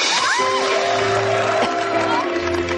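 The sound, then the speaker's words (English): A crowd applauds and cheers in a dense, steady roar of clapping with scattered whoops, while sustained heartfelt piano notes play underneath throughout. “Oh, I like the applause with the heartfelt piano in the background.”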